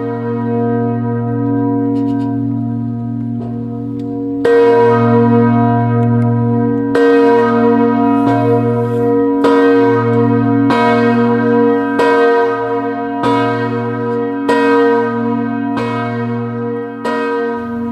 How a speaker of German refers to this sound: Tag läutet diese Glocke. Ihr Klang hallt über das Gelände des ehemaligen Konzentrationslagers in Dachau. Die Zeit erinnert an die Todesstunde Jesu am Kreuz.